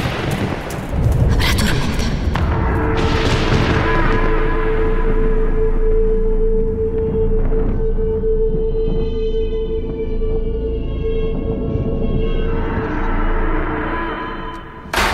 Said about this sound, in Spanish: ¿Pero qué? Es la tormenta.